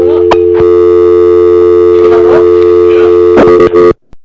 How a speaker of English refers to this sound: He hung up. Either he hung up or I didn't pay the phone bill, but something just fucking happened.